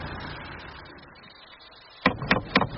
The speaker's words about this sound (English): What are you doing knocking this door? I was just calling to see this woman who'd advertised dogs for sale.